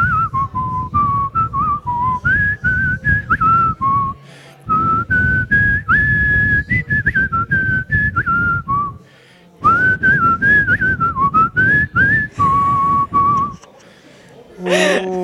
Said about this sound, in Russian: Посвисти. Художественно.